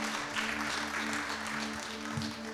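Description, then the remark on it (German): A crowd applauds steadily, a dense wash of clapping that stays even throughout, with a faint low tone humming underneath. “Gib dir mal echt kurz einen Applaus.”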